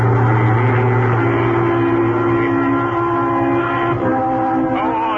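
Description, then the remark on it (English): A large truck carrying sheep drives at a moderate speed along Highway 28 into Bancroft, Texas, in the morning sun and blazing heat, its heavy engine droning loudly and continuously with a deep, even rumble and a slight shift in pitch near the end. “A large truck carrying sheep is traveling at a moderate speed along Highway 28, leading into Bancroft, Texas.”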